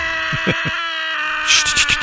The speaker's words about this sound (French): Eh bien, à Chicago, sachez-le, une association insolite propose une méthode radicale pour évacuer le stress. Hurler à plein poumon.